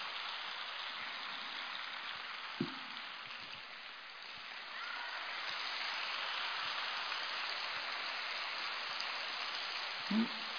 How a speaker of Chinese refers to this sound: 弄得像毛毛雨一样。谢谢大家啊！你知道吗？鼓掌是通经络，对心脏有好处，然后鼓励了别人，温暖了自己啊！